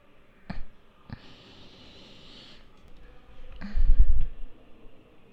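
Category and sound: tool, pen writing on paper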